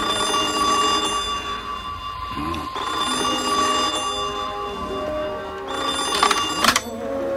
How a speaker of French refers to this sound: quand soudain, le téléphone sonne.